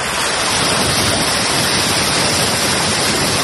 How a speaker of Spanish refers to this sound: Con esa fuerza caía el agua y soplaba el viento hasta 150 kilómetros por hora ayer en Galicia, donde se han registrado hasta 300 incidencias.